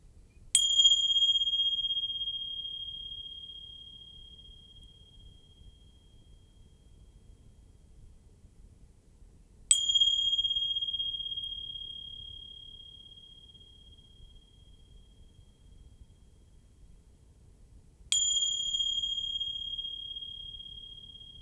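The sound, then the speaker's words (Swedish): A bell is struck three times at roughly nine-second intervals, each strike giving a clear, high, pure tone that rings on and slowly fades away. No one speaks. “Som om ljudet från mina klockor var det allra mest intressanta just nu.”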